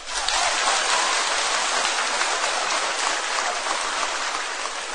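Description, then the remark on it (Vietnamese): A crowd of children bursts into loud, sustained applause, a dense crackle of many hands clapping steadily for about five seconds with no voices heard. “Thì rất mừng khi các con đều vỗ tay, vỗ tay rất giòn như pháo nổ.”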